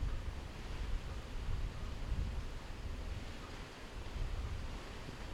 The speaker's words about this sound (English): I don't know if you can hear that, but those are the waves being driven by the wind. It's a slight wind now, so it's probably not as audible.